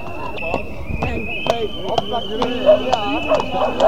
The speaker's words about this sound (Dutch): En weer gaat de demonstratie een keer de andere kant op dan de begeleidende politieagenten. Paarden rennen weer langs de demonstratie heen.